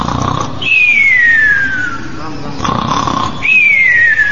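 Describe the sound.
A voice imitates snoring twice, each rasping inhale ending in a high, falling whistle-like tone. The sounds are fairly loud, with no other talk.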